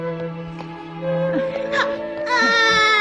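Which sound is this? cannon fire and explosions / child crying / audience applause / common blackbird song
child crying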